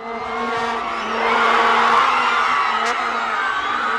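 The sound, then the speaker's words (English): A large crowd in a city square in Johannesburg, South Africa, cheers loudly as Sipiwe Shabalala scores for South Africa against Mexico in the 55th minute, a dense, sustained roar that swells midway, layered with steady buzzing horn drones and no clear individual voices. “And the biggest cheer was when Sipiwe Shabalala scored that goal for South Africa in the 55th minute.”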